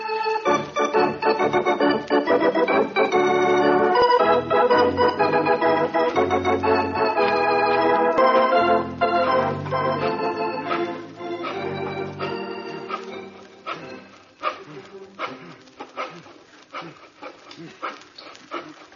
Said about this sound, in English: Oh, nothing important. I just have to saw this bathroom door open, that's all.